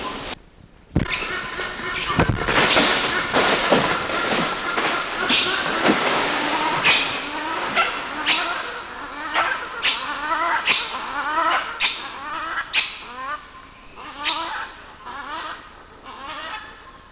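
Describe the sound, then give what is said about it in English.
Two adult male animals in a group give a loud series of high squeals mixed with short, harsh barks, repeated in rapid bursts over a noisy outdoor background. “Adult male squeals and they kind of bark.”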